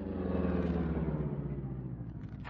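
A car engine rumbles steadily and settles lower as the car pulls over to the side of the road and slows to a stop, ending with a short hiss of noise. No one speaks.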